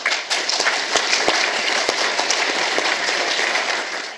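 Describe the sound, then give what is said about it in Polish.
A crowd applauds the young people whose history works were awarded, a dense wash of many hands clapping with a few sharper individual claps standing out, holding a fairly even loudness before easing off at the end. “Brawa, brawa.”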